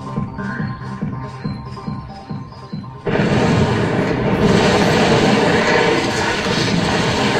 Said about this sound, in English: As that cesium sinks in the water, the rapid generation of hydrogen gas should produce quite an explosion.